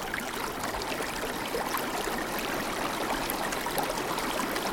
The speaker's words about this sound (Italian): Questo è il canale. Corre nell'omonima valle, in Trentino. È il torrente, così come l'ho sempre pensato e come l'ho sempre conosciuto.